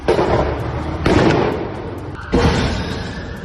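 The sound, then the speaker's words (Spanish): A taxi explodes in front of a hospital, a case investigated as a terrorist attack: three loud, heavy blasts about a second apart, each trailing into a rumbling roar of fire and debris. No voices. “la policía sigue investigando la explosión de un taxi frente a un hospital que deja un muerto y un herido”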